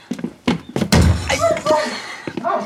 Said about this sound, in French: Il faut enfoncer la porte. Bon, allons-y. Une, deux